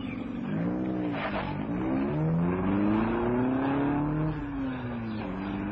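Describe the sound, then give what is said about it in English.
A car engine revs up and down, its pitch climbing and sliding back in long sweeps, loud, with no voices over it. “It must have been a car. Backfired somewhere or something.”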